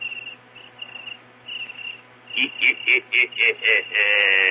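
A cricket chirps, high and shrill, first in short scattered trills, then in a quick run of evenly spaced pulses before settling into one steady, unbroken trill.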